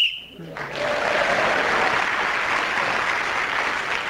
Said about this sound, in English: Whoever is speaking when the whistle is blown gains an extra point.